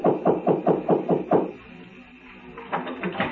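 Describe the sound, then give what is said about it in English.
Rapid knocking at a door: a quick run of about seven firm raps, a short pause, then a softer flurry of a few more. No voices. “The door opened before I could get to it.”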